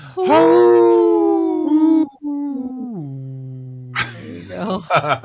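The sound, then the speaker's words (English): A person imitates a wolf howl, one long loud sustained cry that slides downward in pitch over a few seconds, then a voice starts talking briefly. “Nice wolf.”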